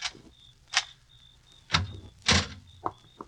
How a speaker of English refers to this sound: Now, open the door